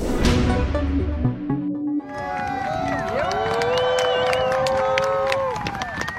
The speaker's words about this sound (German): Das ist der Applaus, mit dem Julian Assange heute am Flughafen empfangen wurde. Man hört es, es war ein ausgesprochen warmer Empfang eines Mannes, der wie gesagt so stark polarisiert.